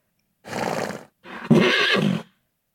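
A horse neighs twice, fairly loud: a shaky whinny, a short pause, then a longer, stronger whinny with a sharp onset. Two horses stand at a house in a dusty place with wooden houses and packed-sand paths. No one speaks.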